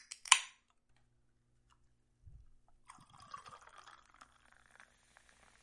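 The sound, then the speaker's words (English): A sharp crack and a soft thud, then Coca-Cola from a red can pours into a glass for a Cuba Libre cocktail with a bright, fizzy crackle and hiss that runs for a few seconds before thinning out to scattered pops. “For everyone at home, that does just leave our final ingredient, that classic in a red can, Coca-Cola.”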